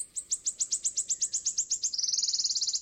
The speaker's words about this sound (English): The wood warbler has its mouth open, calling out.